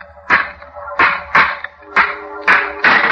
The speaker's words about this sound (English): Smashed the lock.